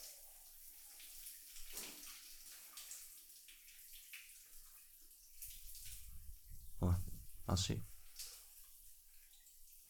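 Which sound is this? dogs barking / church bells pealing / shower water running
shower water running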